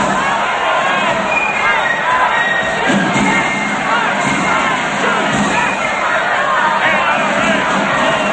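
A crowd of demonstrators, some holding signs reading "Politicians prefer unarmed subjects" and "Don't dial 911, dial 357", shouting: many overlapping voices yelling and calling out at once, a loud, dense, unbroken roar of voices that holds steady for the whole stretch.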